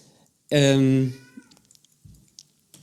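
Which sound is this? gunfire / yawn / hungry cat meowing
hungry cat meowing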